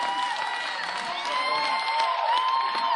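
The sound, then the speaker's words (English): A large audience stands and cheers and shouts praise together, a dense, sustained wash of voices with whoops rising above it, steady and loud throughout. “Come on, stand up for a minute and give him praise.”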